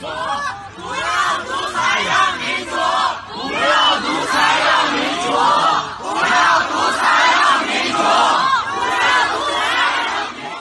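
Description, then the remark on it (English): A large crowd of protesters in China shouts and chants continuously, many voices overlapping into a loud, dense roar with rising and falling waves of yelling throughout. “Here's just 10 seconds, roughly, of some of the protests that erupted in China.”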